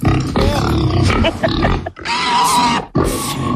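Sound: pig grunting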